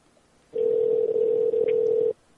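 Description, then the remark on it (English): A steady, unbroken telephone dial tone hums for about a second and a half, fairly loud, then cuts off abruptly as someone places a call back to a man. No voices are heard. “I'm going to call him back.”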